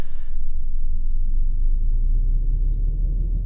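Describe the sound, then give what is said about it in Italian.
In a flight simulator, the airplane's engines are started, left engine first with Page Up, spinning up into a steady, loud low rumble after a brief higher-pitched burst at the start, droning on without speech. “Accendiamo i motori del nostro aeroplano. Con pagina su accendo quello di sinistra.”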